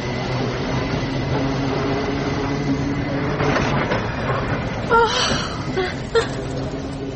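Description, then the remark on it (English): A tram rolls by with a steady rumbling drone and low humming tones, then a few short, high-pitched metallic squeals near the end. No one speaks. “What a lovely, exciting tram.”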